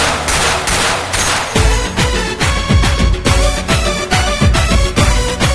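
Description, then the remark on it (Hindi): A loud, sustained stretch of rapid gunfire, with sharp bursts crackling one after another in a fast, uneven rhythm, punchy from start to finish, with no voices. “ठा ठा करके गोलियां चला दूंगा।”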